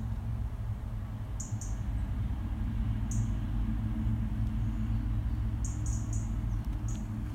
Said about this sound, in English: As we carry on along the path, as I'm sure you can hear in the background, the bird life is still surrounding me. Even though the main road between Otley and Poole drones on in the background, the birds take over and it's just a wonderful sound.